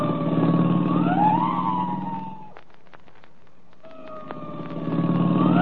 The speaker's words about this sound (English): I'll give the siren all the way. You ought to be able to hear that.